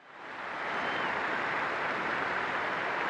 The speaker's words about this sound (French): Un message fort, plusieurs fois interrompu par les applaudissements de la place Saint-Pierre, 40 000 fidèles et touristes, dont ce couple venu de Belgique.